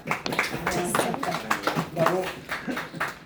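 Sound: audience clapping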